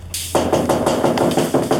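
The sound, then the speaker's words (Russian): A police inspector knocks on an apartment door: a rapid, steady series of loud knocks, about ten firm raps in quick succession, with no voices over them; nobody opens. “Шорохи есть, но нам никто не открыл. Достучались только до соседей.”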